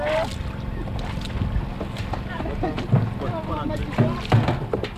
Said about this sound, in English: Water laps over the gunwales as the fisherman pulls the tiny wooden boat into the shore of this bountiful river. The tiny boat is heavily weighted down with the morning harvest from the river.